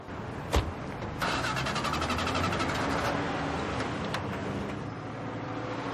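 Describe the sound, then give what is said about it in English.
A sharp click, then a car engine cranks with fast, rhythmic chugging as it struggles to start, fairly loud, followed by a steady rumbling noise. “Start the engine.”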